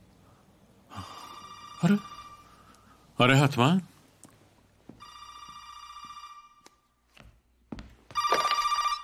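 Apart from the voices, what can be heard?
telephone ringing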